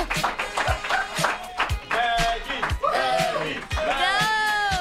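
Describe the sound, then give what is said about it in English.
A group of people come into a studio and clap in quick, uneven bursts of sharp claps to congratulate a colleague on a Hall of Fame honor, with excited voices whooping and calling out over the applause throughout. “Why did everyone just come in and start clapping?”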